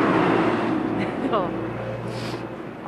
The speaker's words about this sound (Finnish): Sieltä no, nyt tulee traktori. Kaupungin ylläpitotraktori, hyvä meininki.